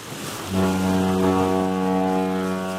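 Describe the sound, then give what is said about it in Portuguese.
A deep ship horn blasts in after a moment of harbour background at the cruise terminal of the Port of Leixões in Matosinhos, and holds one long, loud, steady tone over faint wind and water, with no voices. “Porto de Leixões, terminal de cruzeiros.”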